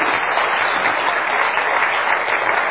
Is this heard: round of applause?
yes